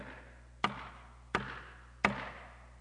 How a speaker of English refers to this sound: I'm standing outside my church, and I'm knocking. I'm knocking. I'm knocking. I'm desiring to come in.